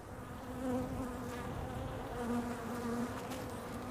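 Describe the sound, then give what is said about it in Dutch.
Dense, steady buzzing of many honeybees, a continuous droning hum with bright harmonic tones that rise and fall slightly as bees move around a busy hive, bees flying into the hive carrying large, thick clumps of orange pollen on their legs. “Ze komen al met hele grote, dikke klompjes stuifmeel nu de kast in. Het is hartstikke druk hier.”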